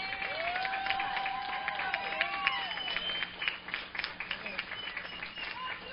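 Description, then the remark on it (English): An audience applauds the scholarship class of 2017 steadily for the full stretch, a dense wash of many hands clapping, with a few rising cheers and indistinct voices mixed in before it thins slightly toward the end. “Congratulations, and one last robust round of applause for the scholarship class of 2017.”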